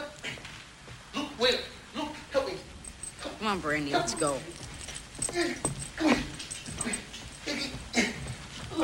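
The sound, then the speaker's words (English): A dog whimpers and lets out short, high yips in a restless run of cries, with some rustling and shuffling movement around it. “Why don't you walk the dog?”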